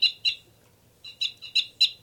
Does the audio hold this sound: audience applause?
no